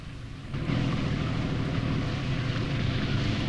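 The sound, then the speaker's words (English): A motorboat engine drones loudly and steadily as the boat is steered back into dock at a jetty in daytime, its low rumble rising sharply after a brief quieter start, with a wash of water and wind noise around it. “The boat motors away.”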